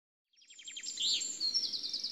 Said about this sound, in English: What's that? Is it a jet? No, it isn't. It's a bird. It's a big bird.